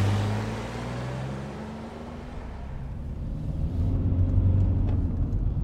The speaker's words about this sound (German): Bevor sie sein Auto erkennen konnte, legte er den Gang ein und fuhr los.